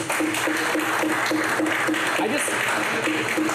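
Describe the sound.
An audience claps steadily for a few seconds after being asked to clap if they think the Cleveland Browns will make the playoffs next year: a dense wash of many hands at an even loudness, with crowd voices murmuring underneath.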